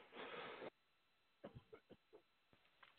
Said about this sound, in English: Excuse me, I have a cough.